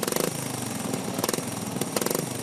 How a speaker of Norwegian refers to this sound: Fislete motor, altså. Det er fislete motor. Det er ikke liksom det er ikke drag racing akkurat.